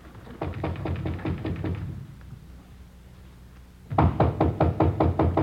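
Rapid, heavy knocking by police officers on a door comes in two urgent bursts of about ten blows each, separated by a short pause; the second burst is louder.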